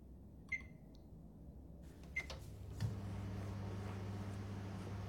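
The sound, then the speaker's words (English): A few short electronic beeps from keypad presses on a microwave, set to heat chilled food for one minute, then a steady low humming drone starts up as it begins running, continuing to the end. “Pierce. Film, microwave from chilled 1 minute.”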